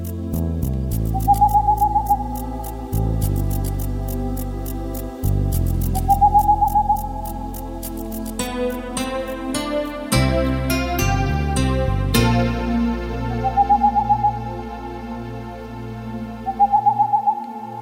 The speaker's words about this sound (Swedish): Och visst är det stämningsfullt, pärlugglans rop. Jag har sett på artportalen.se att den här barrskogens sång redan har hörts nu i januari faktiskt på några håll i norra Sverige.